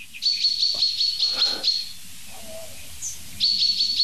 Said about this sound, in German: Ich werde versuchen, diesem Alarm noch ein bisschen auf den Grund zu gehen. Aber ihr habt es die Situation, glaube ich, ziemlich gut hören können.